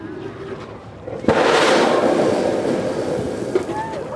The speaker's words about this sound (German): Und Sekunden später ein Wasserdampfstrahl fauchend in die Höhe schießt.